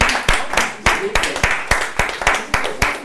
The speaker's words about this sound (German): Lass uns die Kinder noch mit einem Applaus verabschieden. Liebe Kinder, alles Gute.